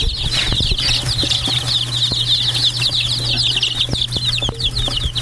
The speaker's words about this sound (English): All right, let's stop here and cue the goats. And the baby chicks.